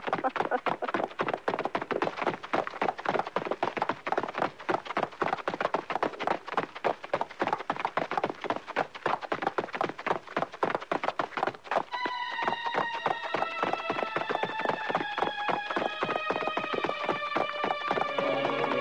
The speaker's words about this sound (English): And, well, that sounds like a good tap dancing.